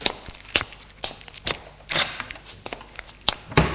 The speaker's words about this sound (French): Attends, je vais ouvrir les volets du salon.